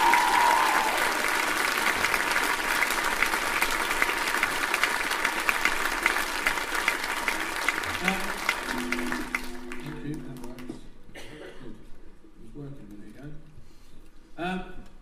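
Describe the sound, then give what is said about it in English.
A crowd bursts into sustained applause and cheering, a dense wash of clapping that fades out after about ten seconds, with voices and a sustained tone emerging as it dies away. “So can we have a huge cheer for those people here?”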